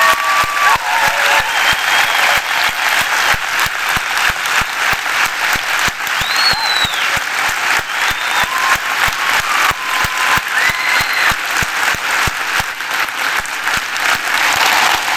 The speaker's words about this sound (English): Folks, this is the team that has worked behind the scenes for all these years to deliver us to this moment. And they are worthy of our honor. And I want to ask you to thank God now through your applause for these people.